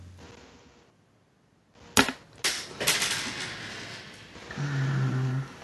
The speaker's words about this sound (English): I believe something just broke from my chair. that's not good. Don't fall.